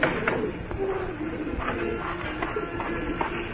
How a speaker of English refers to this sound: I was just feeding the pigeons.